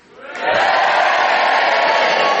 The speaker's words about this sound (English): If you agree with Tony Hawks, you cheer for him. And if you disagree, you boo for Clement Freud.